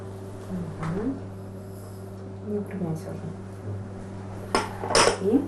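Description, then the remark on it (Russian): A utensil scrapes and knocks against a bowl while stirring a mixture of mashed yeast, cream and sugar for an Easter bread starter dough, with a couple of sharper clinks near the end, over a steady background hum and some brief murmuring voices. “И еще раз хорошо перемешиваем.”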